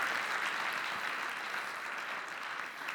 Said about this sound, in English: Yes, give the Lord a hand. If you want to clap, clap.